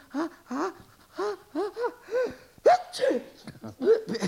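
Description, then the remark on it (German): A voice builds up with a series of short, breathy gasps before a sharp, noisy sneeze caused by dust in the nose bursts out, followed by a few more gasping breaths, fairly loud. “Und wenn man einen Staub in der Nase hat, dann muss man niesen.”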